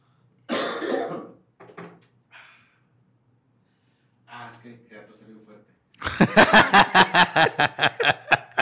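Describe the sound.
A person coughs, a harsh burst followed by a few smaller coughs, then a voice speaks briefly before a long, rapid series of rhythmic coughing or hacking fills the end.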